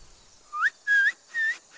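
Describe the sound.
Three short, shrill whistled calls made by a local ranger in Ojala National Park blowing across a leaf held to the lips, each sliding upward in pitch and spaced evenly, with no talking; the call attracts colobus monkeys.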